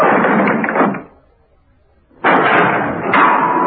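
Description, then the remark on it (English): A heavy cell door slams shut: a loud, grinding burst of noise, a second of quiet, then another abrupt, harsh rush of sound that holds until the end. No voices. “Seconds later, there was a slam of the cell door.”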